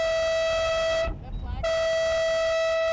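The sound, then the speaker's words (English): A loud air horn sounds a five-minute start warning for Moth sailboat racers at the Moth Worlds on the Columbia River: two long, steady, brassy blasts with a short pause between them, and low rumbling noise beneath. “The racers get a 5-minute warning before the start.”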